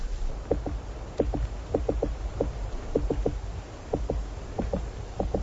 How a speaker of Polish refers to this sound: Przed chwilą było też słuchać jego stukanie w pień drzewa.